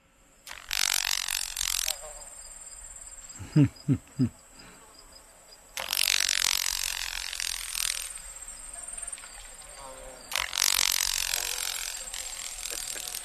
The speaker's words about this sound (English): The following examples of crepitation are from a Carolina grasshopper.